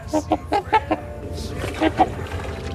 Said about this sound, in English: And the trumpeter swan.